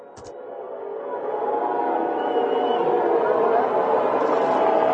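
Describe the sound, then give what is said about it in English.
A large stadium crowd of Kansas City Chiefs fans boos and hisses during a moment of unity, in a dense, sustained roar that swells slightly after the first second and holds steady, a low droning mass of voices with a faint airy hiss on top. “You hear the booing and the hissing.”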